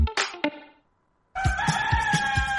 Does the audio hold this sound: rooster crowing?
yes